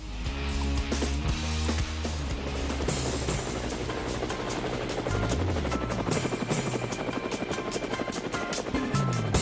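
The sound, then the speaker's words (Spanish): Helicopter rotor blades thud in a steady, rapid chop, loud, with a dense engine whine underneath throughout. “Bueno, pues llegan las aspas del helicóptero.”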